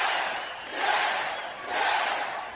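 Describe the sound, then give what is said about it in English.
A crowd chants "yes" in unison, the loud broad roar swelling and easing in a steady rhythm about once a second, with no individual voices standing out. “Getting the yes treatment here from the Sound Off crowd.”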